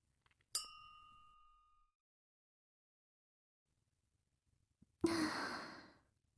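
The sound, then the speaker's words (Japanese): A single bright clink of wine glasses in a toast rings out and fades over about a second, followed after a pause by a breathy sigh. No one speaks. “では、乾杯。”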